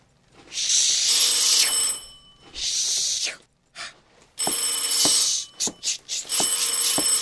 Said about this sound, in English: it was 5 minutes to 6 when the phone rang again.